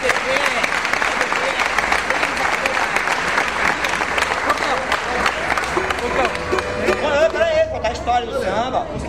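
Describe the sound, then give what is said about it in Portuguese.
An audience breaks into sustained, dense applause for a composer about to present his samba for the first time, many hands clapping steadily at a loud, even level, with crowd chatter and a few raised voices mixed in toward the end. “Uma salva de palmas, pessoal.”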